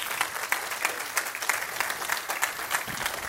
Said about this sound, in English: I wanted to recognize, if you are a female, one of our worship leaders, if you're one of our group leaders, team leaders, ministry leaders, would you guys stand up and let us applaud you for just a moment? That's what I'm talking about.